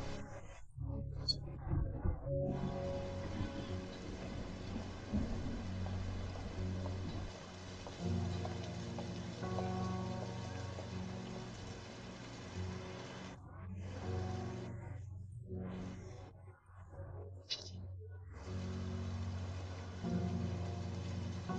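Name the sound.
heavy rain falling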